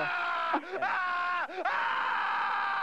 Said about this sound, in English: What is in the thesaurus under primal scream? I think you should let it out. Articulating the English language is overrated. I want you to scream right now.